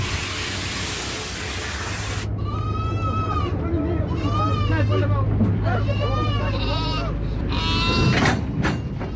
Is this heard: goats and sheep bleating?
yes